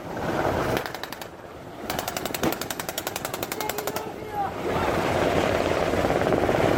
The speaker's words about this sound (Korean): 훈련 시작을 알리는 지휘관의 외침이 울리자 테러범 역할을 맡은 배우들이 배 위에서 바다를 향해 일제히 사격을 시작했습니다.